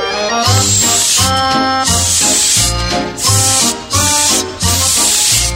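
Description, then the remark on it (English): Loud bursts of hissing steam from a locomotive come in a rough rhythm of several blasts, layered over a bright, steady musical backing. “Oh, I'm an engineer, and though the job I do may seem a little bit nerve-wracking, I can always let off steam.”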